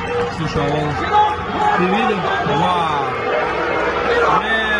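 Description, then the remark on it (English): A steady murmur of many overlapping voices from a crowd in a played video fills the whole stretch, a continuous crowd babble with no single clear speaker, fairly loud and even throughout. “So, here's the crowd.”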